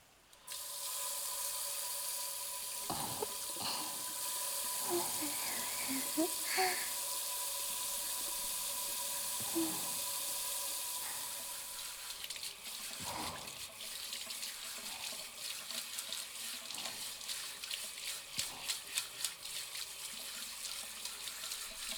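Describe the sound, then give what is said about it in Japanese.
A shower sprays hot water steadily, rinsing off soap foam, with a broad, hissing rush whose tone shifts as the stream hits different surfaces, with scattered thumps and splashes underneath and no talking. “シャワーで泡洗い流していこっか。”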